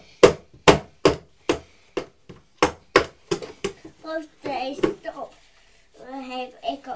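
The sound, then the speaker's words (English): A red and blue toy hammer bangs in a quick series of about a dozen sharp knocks, slowing toward the end before a child's voice and adult talk take over. “That makes a good bang, doesn't it? Listen, what's that banging?”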